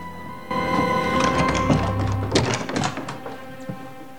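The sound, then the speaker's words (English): Rochester slides a key into the lock of a door at the top of the dark staircase in the North Tower, with scraping metallic rattles and a quick cluster of sharp clicks, then one final click, over a low steady hum. “They stop at a door and he inserts a key.”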